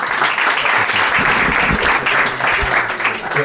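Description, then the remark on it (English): Steady, loud applause from an audience welcoming two speakers at an evening talk, a dense wash of many hands clapping at once with no break, sustained for a few seconds. “And so now, please, can we have a big round of applause and welcome the two,”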